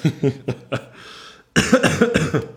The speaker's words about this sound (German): Entschuldige, jetzt hätte ich mal husten müssen.